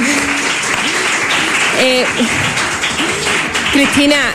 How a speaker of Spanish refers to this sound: Un aplauso para el público, que lo ha hecho bastante bien.